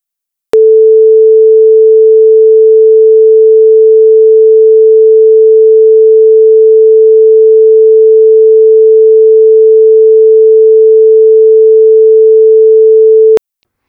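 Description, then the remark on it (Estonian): A single steady pure tone at A above middle C, loud and unwavering, starting abruptly and holding for about thirteen seconds before cutting off cleanly, with no other sounds. “Kuuleme nüüd veel kord heli sagedusega 440 hertsi. Esimese oktaavi la.”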